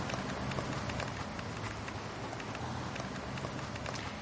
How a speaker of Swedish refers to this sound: Ljudet av mina fotsteg hörs mer än elbilen som kör bredvid.